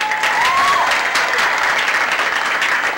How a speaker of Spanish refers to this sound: A ellos un aplauso muy grande.